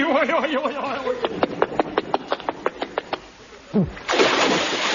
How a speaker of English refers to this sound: Good shot. He landed right in the sea.